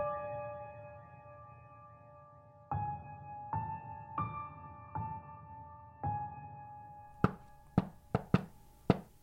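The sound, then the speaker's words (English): A ringing, bell-like melodic phrase of several struck tones is followed by a quick run of sharp, loud knocks on a door in the familiar shave-and-a-haircut pattern, with no talking. “To this day, all it takes is that rhythm to be knocked on my door, for my stomach to drop and my heart to miss a beat.”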